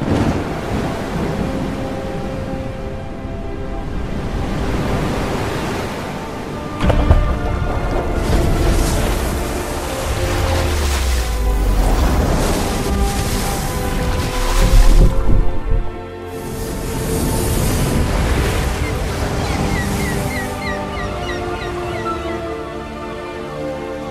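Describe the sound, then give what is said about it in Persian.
Roaring, surging water crashes and rushes in heavy waves as the sea splits apart after Moses strikes it with his staff, each part like a great mountain. Deep thunderous rumbles swell and ebb over sustained musical tones. Loud, with no talking. “موسى عصایش را به دریا زد، دریا از هم شکافت و هر پارش چون کوهی بزرگ بود.”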